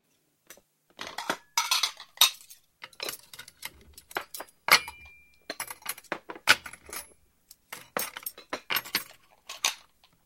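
Bowls and chopsticks being cleared up after a father's 60th birthday dinner, with a busy run of clinks and clatters in irregular bursts, sometimes pausing briefly. Nobody speaks.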